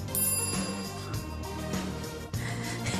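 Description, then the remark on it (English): A bright, ringtone-like notification-bell sound effect plays a short melodic phrase of repeated electronic tones with no one talking. It is fairly loud, lasting about three seconds. “If you enjoyed today's show and you haven't already, make sure you like, subscribe, and hit that notification bell.”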